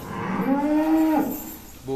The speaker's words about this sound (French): Recep Özkan est fier de montrer son troupeau, une soixantaine de vaches dont il obtient chaque jour 250 litres de lait en moyenne.